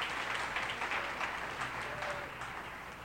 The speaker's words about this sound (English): And I know we thanked the committee already, but just one more time, give the committee a little round of applause. It takes a lot to do this, you know?